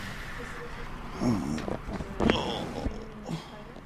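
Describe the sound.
A man breathes heavily and with strain during a physiotherapy exercise at Toronto Rehab's Lyndhurst Centre, as a physiotherapist pushes him hard to get back on his feet; a few effortful gasps and voiced grunts come in irregular bursts against a faint background.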